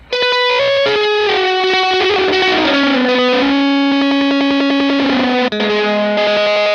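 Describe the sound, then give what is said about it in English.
A heavily fuzzed electric guitar played through a fuzz pedal in orange mode, with the echo placed before the fuzz, plays sustained, buzzy notes with a smeared, repeating echo trailing behind them, loud and continuous with no talking. “This is orange mode with the echo before.”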